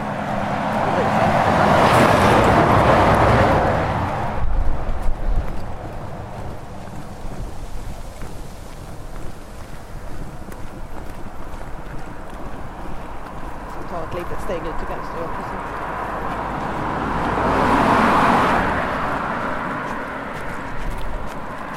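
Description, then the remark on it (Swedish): Two cars whoosh past on a 60 km/h road, one at the start and another near the end, each swelling up loudly and fading away over a steady outdoor rumble with some wind noise. “Framförallt när man går mörklagt och så känner man att bilarna susar förbi på 60-väg.”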